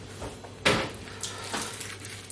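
A door opens with a sharp clack as a woman arrives while a meal of meat, peppers and tomatoes is being cooked, followed by a softer knock a moment later, over a steady low hum.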